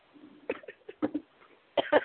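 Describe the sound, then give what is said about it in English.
A woman with a cold gives a short run of coughs: a few harsh bursts spaced about half a second apart, the last one loudest and doubled. No one talks. “I think she's coughing. Still got the cold.”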